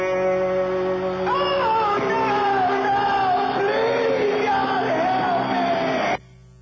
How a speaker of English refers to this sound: listen at him scream, "Oh God."